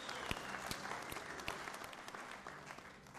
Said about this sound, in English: We also have got a young man at the front. Let's just give a clap offering to the young man.